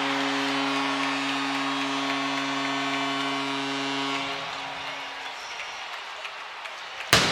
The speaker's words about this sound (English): Well, there's the cannon, the first one of the night. 2:19 to go in the first period. The Blue Jackets take the 1-0 lead,